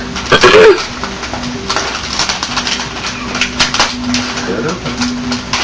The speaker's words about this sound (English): Don't worry about ripping the paper. Come on. No, wait. Keep going.